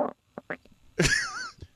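A voice imitates a woman's stomach rumbling and gurgling: a few short grunting bursts, then a longer warbling, wobbly gurgle, fairly loud.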